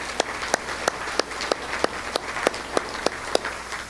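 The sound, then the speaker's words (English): Steady, evenly paced clapping by people in a room at an event recognizing nine women, applauding everyone present: about a dozen sharp, bright claps in a regular rhythm over a faint background hiss, with no one talking. “So let's give all of you a round of applause.”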